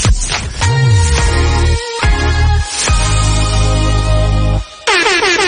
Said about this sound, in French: Mon alarme!